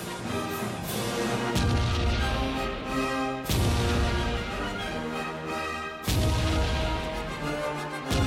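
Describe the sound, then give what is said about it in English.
Three loud fireworks explosions, each a sudden deep boom followed by a long rumbling, crackling decay that fills the gap before the next burst. No voices are heard. “Or how about during a fireworks show?”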